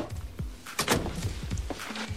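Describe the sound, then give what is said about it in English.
A woman kicks a door shut with her foot: a single solid thunk near the start of the second, followed by brief rattling and scuffing, moderately loud, with no voices. “She kicks the door shut with her foot.”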